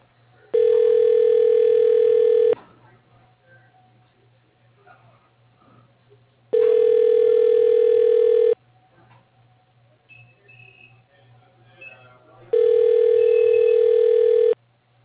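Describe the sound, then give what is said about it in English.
A telephone ringback tone sounds three times while a call is being transferred, each steady, buzzing ring lasting about two seconds with long pauses between, over a faint low hum. “Please hold while your call is being transferred to...”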